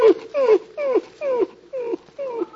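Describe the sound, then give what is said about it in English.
A dog whimpers in a series of about six short, high, falling whines, evenly spaced, with no talking over them. “Well, looks like you're going to lose your dog”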